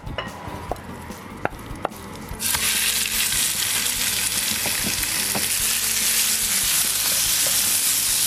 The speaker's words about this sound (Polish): Czosnek mamy pokrojony, szpinak i feta czekają na swoją kolej, a my wrzucamy kurczaka na patelnię.